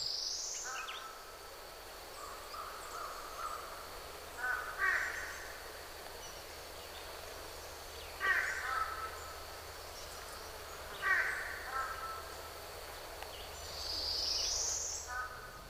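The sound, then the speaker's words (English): American crows and fish crows caw in short harsh bursts, roughly every three to four seconds, over a steady outdoor hiss. A thin, high bird note sounds at the start and again near the end. “I can't say for sure whether or not American crows and fish crows like one another.”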